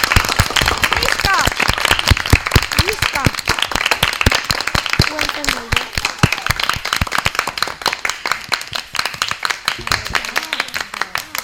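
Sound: class applauding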